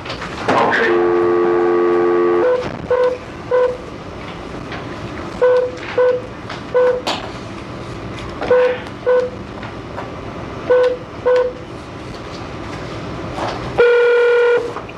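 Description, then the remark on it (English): A phone call placed during a hearing rings out before voicemail answers: after a brief tone at the start, short electronic ring tones repeat in paired bursts with pauses, ending in a single longer beep. No one speaks. “So let me make this phone call, and then I'm going to turn it over to the Honorable Mr.”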